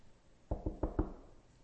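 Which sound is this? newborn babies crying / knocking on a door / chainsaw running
knocking on a door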